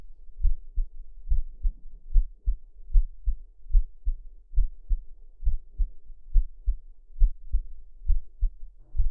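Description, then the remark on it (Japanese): A steady, muffled heartbeat thumps, heard with a listener's ear pressed against a person's chest, low and soft, the paired lub-dub beats repeating at a calm, even pace for several seconds with no one talking. “ねえ、私の心臓の音聞こえる？静かにするから聞いてみて。”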